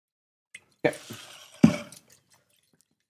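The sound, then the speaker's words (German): Pale yellow wine splashes into a glass in two short pours to give it some air, with a faint clink at the start and wet, gurgling liquid sounds. No talking. “Schenkt man mal eins Glas, geben wir ein bisschen Luft.”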